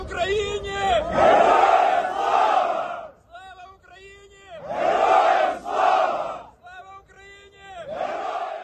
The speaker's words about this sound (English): Footage released by the Ukrainian Presidential Press Service shows them stepping off buses draped in Ukrainian flags, chanting, "Glory to Ukraine!"